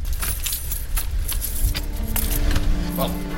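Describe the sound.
A large bunch of house keys jingles and clinks repeatedly as someone rummages through them looking for one special key, with a low rumbling background and faint voices.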